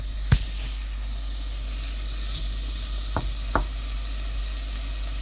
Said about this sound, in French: Voilà, on fait bien revenir l'ail et l'oignon.